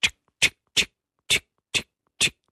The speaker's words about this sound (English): But they're loud. They roar for their tiny size in frog terms. There's one called the Shoemaker. How on earth did that get its name? Well, it just sort of goes.